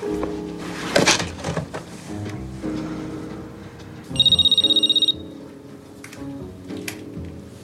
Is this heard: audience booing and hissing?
no